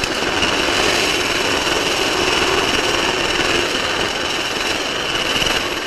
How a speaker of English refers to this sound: So I think the helicopter is getting ready to go up now.